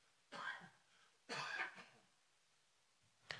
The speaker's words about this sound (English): Excuse me. Oh, I'm going to have a coughing fit.